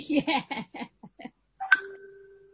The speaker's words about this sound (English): Somebody's getting WhatsApp notifications, or am I the somebody? Yeah, you know how it's working perfectly? Because it just dinged when I got the answer right, and I'm like...